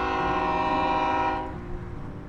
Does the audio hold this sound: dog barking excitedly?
no